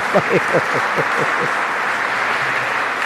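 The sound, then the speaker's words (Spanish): A church audience applauds for the Lord, a dense steady wash of clapping throughout, with a few voices calling out over it in the first second and a half. “Otro aplauso al Señor.”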